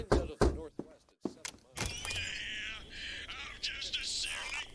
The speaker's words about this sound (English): It wasn't until that night he knocked on my door.